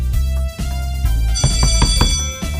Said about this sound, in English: I believe I heard the bell first.